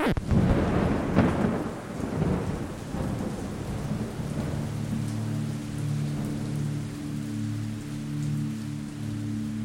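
A thunderstorm: a loud, rolling thunder rumble in the first couple of seconds over steady rain, then the rain keeps falling alongside a low, sustained droning hum.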